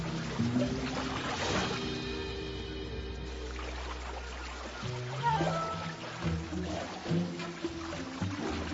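Water splashes and churns steadily as a bear cub thrashes about in a river trying to catch fish, with a low musical drone running underneath. There are no voices.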